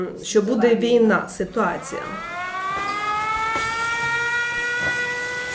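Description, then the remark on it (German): An air raid siren wails in Uzhhorod, Ukraine, its steady tone swelling up and holding loud and dominant for several seconds after a brief burst of voices at the start. “Aber die Menschen, die mit den Evakuierungszügen kommen, wissen, welche Gefahr die Sirenen verkünden.”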